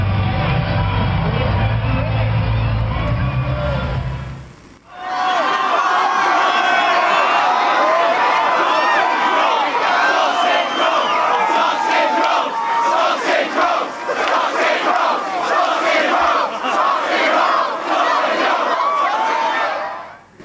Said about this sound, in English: I did not wake up at that morning intending to conclude my day by chanting sausage roll outside a food stall at a festival